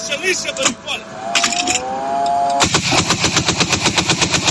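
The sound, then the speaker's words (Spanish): Rapid bursts of automatic gunfire rattle off in a steady, fast rhythm as drones are being intercepted, joined by a rising engine-like whine, with voices speaking briefly at the start before the shooting dominates. “Y de esta manera acabaron siendo interceptados estos drones.”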